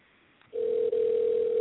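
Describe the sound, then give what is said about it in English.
A telephone line ring tone begins after a brief quiet moment, a single steady, fairly low-pitched electronic tone that holds loudly without pause, with no one speaking. “We're going to try that again one more time because I'm sure, like y'all, the sound of constant ringing is unappealing to the ear.”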